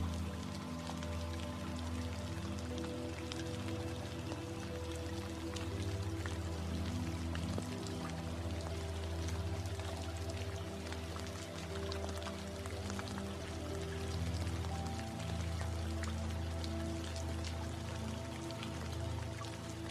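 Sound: rain falling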